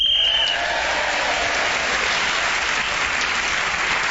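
A sharp, steady high-pitched whistle blast lasting about half a second, blown as Paul Merton was speaking and gaining him an extra point, immediately followed by loud, sustained applause from a crowd that continues evenly to the end.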